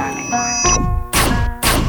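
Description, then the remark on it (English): Two loud, sharp slaps land about half a second apart, each a crisp full-bodied smack, following a brief ringing, bell-like tone at the start. No one speaks. “Fuck the bullshit. Slap.”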